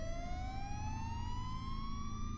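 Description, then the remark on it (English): A police siren wails in one long, slowly rising tone, loud and steady, over a low rumble of engine or traffic noise. No one speaks. “Minutes later, I could hear police sirens.”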